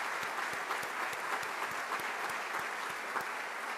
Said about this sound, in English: I'd like him to stand, if he would, so we can give him a round of applause.